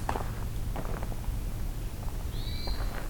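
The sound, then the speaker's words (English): A hermit thrush sings a single brief, clear flute-like phrase high above steady outdoor background noise on a hike, with faint rustling footsteps. “Oh, there's another hermit thrush.”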